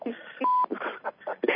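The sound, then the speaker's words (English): A single steady electronic beep sounds as a caller joins a Monday night conference call on the BBS radio network, brief and at a moderate level, while muffled voices talk before and after it. “Oh, my God, they're beeping in.”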